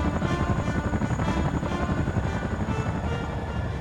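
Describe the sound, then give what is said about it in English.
A helicopter armed with sub-mounted pod missiles roars, its rotor producing a steady, rapid thudding chop over a dense low engine drone that stays loud and constant throughout, with no voices. “Enciso grabbed at the controls for the chopper's sub-mounted pod missiles.”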